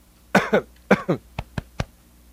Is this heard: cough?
yes